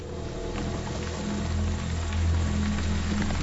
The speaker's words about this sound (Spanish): Llueve intermitentemente, hay viento y rayos y truenos